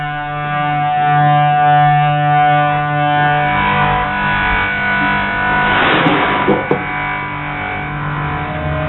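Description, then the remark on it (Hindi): A loud, sustained ambulance siren wails steadily for several seconds, its tone thick with harmonics and slightly distorted, with a brief burst of noise and clatter partway through. “Ambulance.”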